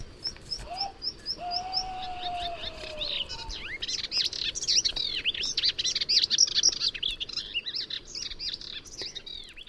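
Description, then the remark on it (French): A songbird mimicking other bird species delivers a varied, medley-like song of borrowed-sounding phrases: quick high chirps, a low drawn-out whistle, then dense, rapid warbling that continues steadily, clear with no talking. “Notons également que certains oiseaux sont d'excellents imitateurs. La fauvette à tête noire, la rousserolle verderolle, le bien nommé Hippolaïs polyglotte, par exemple, imite des dizaines d'oiseaux.”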